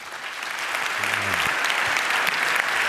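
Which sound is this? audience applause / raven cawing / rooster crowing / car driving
audience applause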